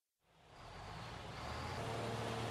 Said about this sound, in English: This is a truck. It carries cement for a new building.